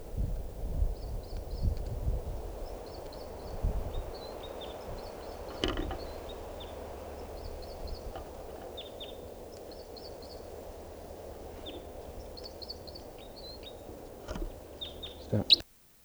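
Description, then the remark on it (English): A female bird gives repeated short calls while a male sings, their high chirping phrases recurring in quick clusters over a steady low rumble of background noise. “Now, perched near 387, that's her calling, and him singing, and I'm pointed at the female.”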